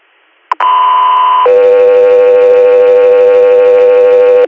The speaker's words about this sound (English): Three Air, stand by for tones.